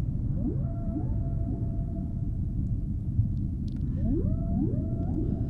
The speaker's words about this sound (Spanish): Así suena una ballena. Mira los silbidos. Parece un pajarito. Por eso lo han comparado con los ruiseñores también.